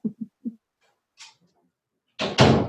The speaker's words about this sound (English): I'm going to close my door real quick, okay?